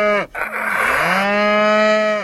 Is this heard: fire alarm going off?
no